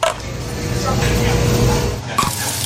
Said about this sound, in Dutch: Je luisterde naar de McFlurry Knetter. Onze nieuwe McFlurry met chocolade en een knetterlekkere topping.